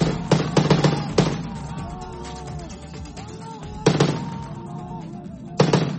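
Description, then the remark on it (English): Bursts of gunfire as Syrian rebels shoot down a government helicopter on a Tuesday in northwest Syria: a rapid cluster of sharp cracks at the start, then two more isolated bursts, while raised, wavering voices shout in the background between shots. “The sound of Syrian rebels shooting down a government helicopter Tuesday in the country's northwest, where opposition activists say Syrian troops are on the offensive in the last rebel stronghold.”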